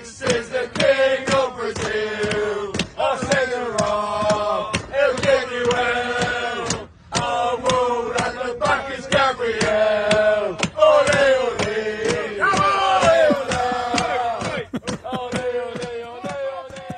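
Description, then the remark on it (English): A crowd of football fans loudly sings a chant about Gabriel in unison on a train on the way back from an away match, rough voices carrying the tune over steady rhythmic claps and thumps, with one brief pause midway. “And they posted a video of their crew singing this Gabriel song on the train on the way back from an away match.”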